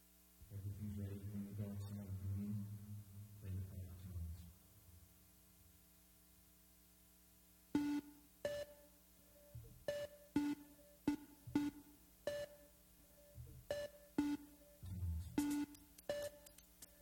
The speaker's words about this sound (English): They tend to separate their instruments really well. They have really simple tones. And so everything is really discrete. You can identify instruments pretty readily. So I'm going to play an electronic piece.